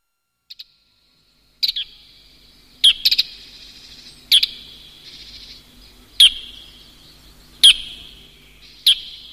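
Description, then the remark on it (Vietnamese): A starling sings alone in a low, sad, steady, repeating pattern: a sharp note roughly every one and a half seconds, each trailing into a soft, sustained whistle, clear. “Một tiếng chim hót làm Berin tỉnh dậy. Tiếng hót trầm và buồn với những âm thanh đều đặn và êm ái.”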